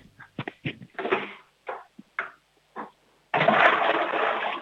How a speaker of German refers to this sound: Boah, das ist aber eine laute Klospülung.